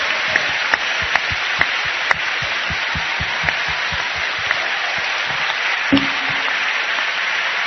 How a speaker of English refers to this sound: Ale złożymy teraz Panu ofiarę z naszych oklasków.